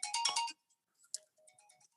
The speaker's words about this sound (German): Heb mal kurz ab dein Handy